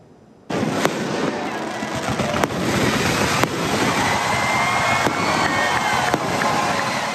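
sound effect, fireworks show exploding

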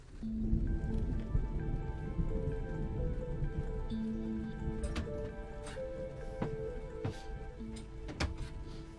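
nature, rain falling

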